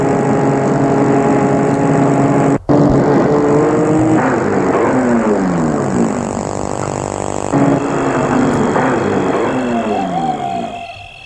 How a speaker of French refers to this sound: La voiture s'arrête devant le perron.